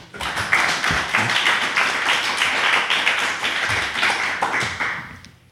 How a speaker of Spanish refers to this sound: Pues muchísimas gracias. Pues muchísimas gracias, chicos. Un aplauso.